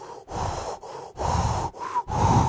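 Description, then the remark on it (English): A man does quick, rhythmic Lamaze breathing: about five loud, breathy in-and-out puffs in a steady pattern, with no talking. “doing his Lamaze breathing over there.”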